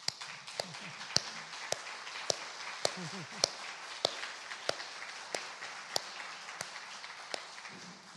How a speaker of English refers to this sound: all Outpost Committee women, please stand up so that we can give you a round of applause.